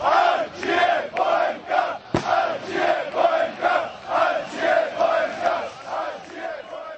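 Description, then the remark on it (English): A large crowd of Bohemians Football Club fans chants "Long Live Bohemians" in a steady, rhythmic cadence, loud, with repeated pulsing phrases echoing through their cramped stadium in a Prague suburb at a home match, with one sharp thud partway through. “Ačia Bohemka, or Long Live Bohemians, roars a crowd at the cramped stadium of Bohemians Football Club in the Prague suburb of Virševice.”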